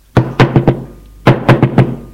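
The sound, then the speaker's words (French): Two quick bursts of four solid knocks on an apartment door, separated by a short pause; the raps are loud and hollow-sounding, with no voices present. “On frappe à la porte.”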